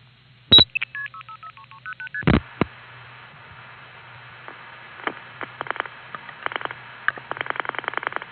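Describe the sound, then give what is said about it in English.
A 1974 telephone call placed from a Long Island Crossbar 5 line through Hempstead, Atlanta 1 and Commerce NX 1 to a Stromberg XY switch in Braselton, Georgia: a sharp tone burst and a quick run of dialing tones, then a low hum with scattered clicks building into rapid relay chatter. “Here's a little slice of Phone Freak life from 1974, and it goes from my Long Island Crossbar 5 line through Hempstead, 5166, Atlanta 1, 4042, Commerce NX 1, to the Braselton, Georgia, Stromberg XY.”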